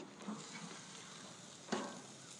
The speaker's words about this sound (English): There's the steak sizzle.